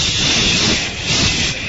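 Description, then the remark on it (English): A person makes a long, steady breathy hiss with their mouth, imitating air rushing out of a pricked balloon, fairly loud, swelling slightly before trailing off. “It was like someone just pricked the balloon, and I just went,”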